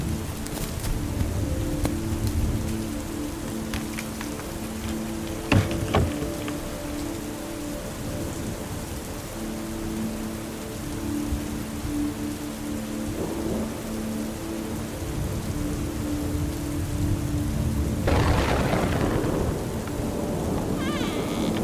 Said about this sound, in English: Doing my business, I tried to wait for the rain to die down some, but it didn't look like that would be anytime soon.